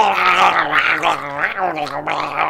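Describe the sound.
A person voices a raspy, gurgling growl in imitation of the Marvel character Wolverine breathing, without inhaling, a continuous throaty rumble lasting a couple of seconds, fairly loud, with no words spoken.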